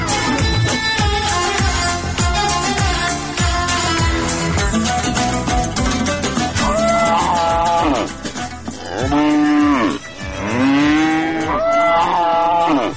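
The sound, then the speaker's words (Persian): Cattle on a livestock farm in the Bini Hisar area of Kabul moo loudly and continuously, several animals overlapping in a dense chorus, with long drawn-out low calls that swell and bend in pitch toward the end. No one speaks. “ما هم به همین ارتباط سر زدیم به فارم مالداری منطقه بینی حصار کابل و گزارش از این فارم تهیه کردم که حالا می شنوید.”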